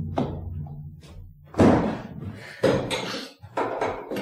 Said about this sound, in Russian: закрой дверь.